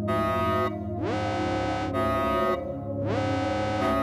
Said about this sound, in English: Whatever's happening seems to be making the alarm louder. There's no need to panic. The hangar bay is just a tiny bit overpressurized.